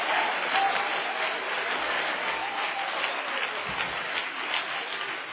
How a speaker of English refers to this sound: No, let's clap our hands and praise Him for the Holy Ghost. Hallelujah!